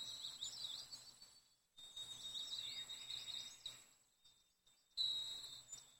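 Soft, high-pitched chirps and twittering from several different birds by a stream come in several bursts with short pauses between them, over a faint, steady background hum.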